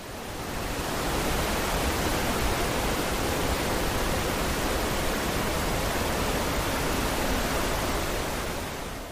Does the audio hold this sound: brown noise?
yes